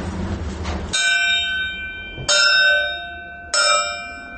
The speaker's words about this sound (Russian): С чего начинается один день Ивана Денисовича у Солженицына? Стук в рельс и подъем для бараки, то есть оживает зона, готовится к очередному рабочему дню.